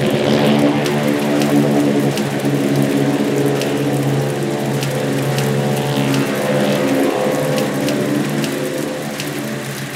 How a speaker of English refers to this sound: As the plane took off, Haynes had no idea those would be the last words he'd ever say to Glenn Miller. Glenn's plane would never reach Paris.